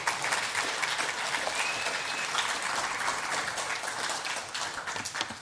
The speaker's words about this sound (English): Go on, well done. Give it a clap.